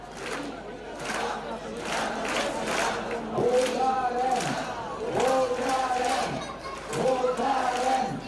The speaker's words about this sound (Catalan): Durant la protesta, que es va desenvolupar amb to festiu i sense incidents, les persones concentrades van mostrar estelades, pancartes i van entonar diversos crits de protesta.